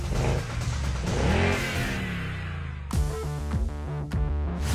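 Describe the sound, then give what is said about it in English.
A car engine revs hard and accelerates, its pitch climbing, then it shifts and roars again with strong rising harmonics, loud, with no talking. “How fast a car can accelerate from 0 to 100 is a measure of how powerful it is.”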